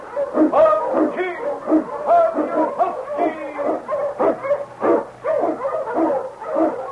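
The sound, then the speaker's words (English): A pack of sled dogs, led by the Eskimo lead dog King, barks and yelps in a constant, overlapping, loud chorus, with some howl-like drawn-out cries mixed in and no talking. “The Wonder Dog King, swiftest and strongest of Eskimo lead dogs, blazes the trail through storm and snow for Sergeant Preston as he meets the Challenge of the Yukon.”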